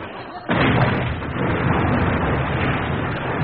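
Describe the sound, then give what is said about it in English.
A brief low murmur gives way to a sudden, loud explosion as a dock blows up, followed by a sustained, dense roar of rumbling and crackling debris that barely fades. “Run for it. Everybody down. There goes the dock.”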